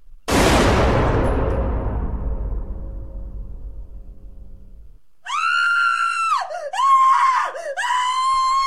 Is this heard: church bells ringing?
no